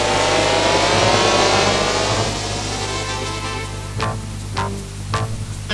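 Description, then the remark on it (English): The Batmobile's powerful engine roars loudly outside police headquarters in Gotham, revving hard as it accelerates away, its broad rumble gradually fading, with a few sharp mechanical bursts near the end. “And outside police headquarters, with a whispered roar, the mighty Batmobile rockets away into the rapidly fading darkness.”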